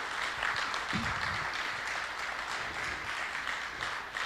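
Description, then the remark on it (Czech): An audience in a hall applauds the actors after a performance, a dense, even wash of many hands clapping at a constant level throughout, with a brief low murmur of a voice early on. “Tak, já teď poděkuju našim hercům, můžete jim zatleskat.”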